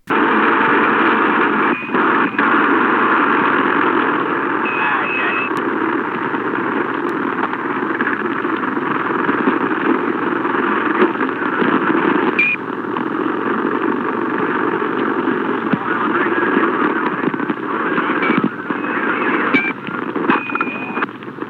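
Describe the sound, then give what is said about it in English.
A scratchy, band-limited police radio recording filled with steady hissing static and a droning engine-like hum, broken by scattered sharp pops and clicks throughout. No voices are heard. “There are certainly pops that can be heard, but are they gunshots, or is that just static?”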